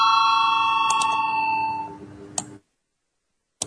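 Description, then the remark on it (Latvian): A bell in the Saeima rings with sustained, bright tonal harmonics that slowly fade over about two seconds, followed by a couple of short sharp clicks and silence, the signal for a parliamentary vote on a Social and Labour Affairs Committee proposal. “Lūdzu zvanu, balsosim par otro sociālo un darba lietu komisijas priekšlikumu.”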